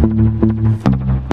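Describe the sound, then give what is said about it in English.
A bass guitar played with a pick plucks four punchy, sustained low notes about half a second apart, each opening with a bright, clicky attack. It is loud, with no voices. “There's the pick again, right?”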